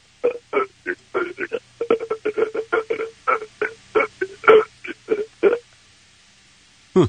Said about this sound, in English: That's burping. I don't hear a beatbox. Yeah. No, I can't really get a rhythm too good with that.